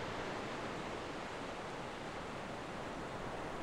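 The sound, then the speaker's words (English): A steady, soft wash of gentle waves rolls continuously along the sandy shoreline of Alexandria Bay, an even hiss of water with no distinct individual laps standing out, heard alone with no voices. “The gentle lapping of the waves invites you to walk along the shoreline.”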